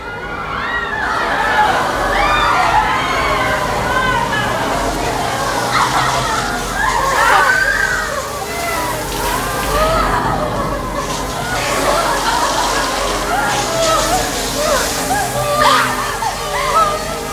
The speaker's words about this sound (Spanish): De las alcachofas de las duchas cae agua.